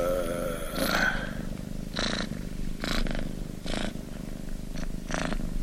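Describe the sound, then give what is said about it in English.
A cat purrs loudly, a steady low rumble swelling into raspy bursts roughly once a second as it breathes in and out, with no talking. “We're into cats over here.”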